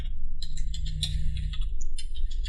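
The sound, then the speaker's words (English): Rapid, irregular clicking of computer keyboard keys being typed right into the microphone, bright sharp taps in quick bursts over a steady low hum, with no one speaking. “Put the keyboard right into the mic, perhaps, isn't the best of things.”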